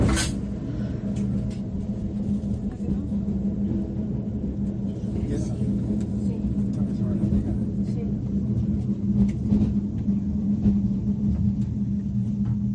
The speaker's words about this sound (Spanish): Habéis oído el golpe inicial y a partir de ese momento el tren va frenando y se empieza como a notar que el vagón va como por encima de piedras, ¿no? Y los pasajeros se empiezan a preguntar qué está pasando.